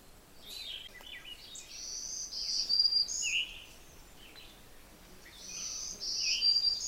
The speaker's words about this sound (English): Hear that zee-zoo, zee-zee-zoo? That's a black-throated green warbler. Very distinct. It's an easy song to learn. They're treetop warblers for the most part.